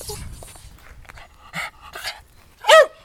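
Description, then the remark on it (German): A male dog pants and snuffles, pricks up its ears, gives a couple of short, soft huffs, then lets out one loud, sharp bark near the end. “Der Rüde stellte die Ohren auf und bellte.”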